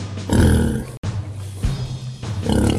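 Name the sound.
pig grunting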